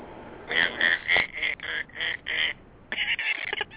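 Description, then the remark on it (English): A duck quacks over and over, about eight loud, nasal, buzzy honks in an uneven run, the last few bunched together with short gaps between bursts. “The hell, did he turn into a duck?”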